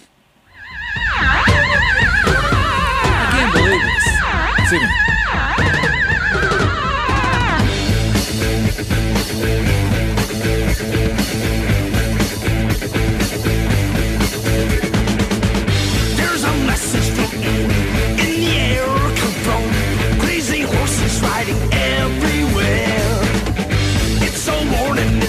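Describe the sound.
A rock song opens with a run of wavering, whinny-like squeals, a horse-neigh sound effect, before a loud, driving full band crashes in with heavy guitar and drums, a singing voice joining in.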